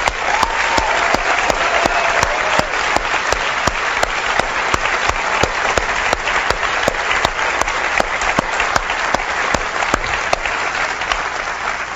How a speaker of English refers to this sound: And there's a lot of folks at Apple that have been working really hard on this stuff for the last 18 months, and I'd like to give them a round of applause if that's okay.